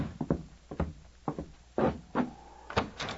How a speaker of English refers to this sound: The following day, Sergeant Preston answered a loud knock at his door.